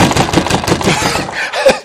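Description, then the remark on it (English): A rapid, loud run of heavy thuds, like someone pounding hard on a door, hitting about ten times in quick succession before trailing off. No one speaks. “He's out there steadily banging on the door. He's knocking.”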